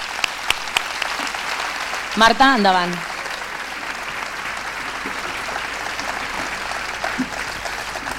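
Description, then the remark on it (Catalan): Sustained crowd applause for the festival commission fills the whole clip, a steady dense clatter of many hands clapping, with a brief spoken voice breaking through over it around the middle. “us vull agrair moltíssim la feina que heu fet i els acomiadem aquest any, amb un gran aplaudiment per la comissió també.”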